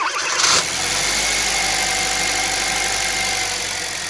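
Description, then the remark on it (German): A car's combustion engine cranks and catches after a brief whir, then settles into a steady, rumbling idle with no one speaking. “Das ist natürlich ein Auto mit Verbrennungsmotor.”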